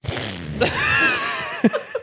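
A fart sound effect lasting about two seconds, a loud, sputtering, noisy blast with a wavering buzzy tone, ending in a couple of short bursts. No one speaks over it.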